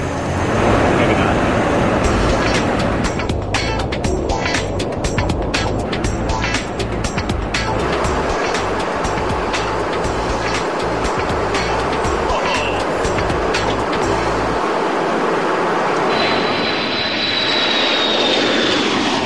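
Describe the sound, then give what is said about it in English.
Jet fuel pumps from the 135 tanker through an aerial refueling boom into a B-52 as a loud, steady roar, mixed with heavy aircraft engine noise and rapid rhythmic clicking for much of the stretch, easing slightly near the end. “If you can hear that noise, that's the fuel going down into the boom and going to the B-52.”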